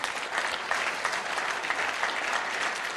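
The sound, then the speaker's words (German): Steady audience applause with many hands clapping in a dense, continuous patter, fairly even in loudness across the whole stretch with no voices standing out. “Und euer Applaus.”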